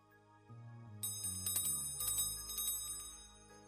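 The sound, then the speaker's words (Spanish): A small bell rings repeatedly in quick, bright strikes, its shimmering tones overlapping and lingering. It is fairly soft, with no voices. “Si me alejo, puedes escuchar la campana perfectamente.”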